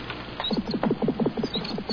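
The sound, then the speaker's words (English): A small bird's rapid heartbeat: a fast, steady train of low, soft thumps, roughly ten beats per second, running evenly for two seconds with no voices over it. “Now, in small birds, their hearts beat about 600 times per minute.”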